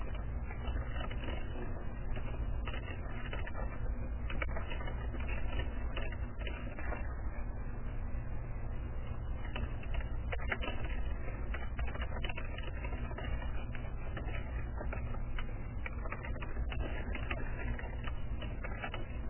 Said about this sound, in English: Boy, all those typing fingers.